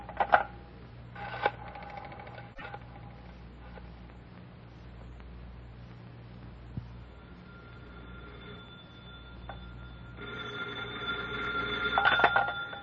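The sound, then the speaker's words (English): A telephone is dialed in a few short clicking bursts, followed by a long stretch of low steady hum, then a loud, buzzy ringing rises near the end. No one speaks. “Hand me the phone.”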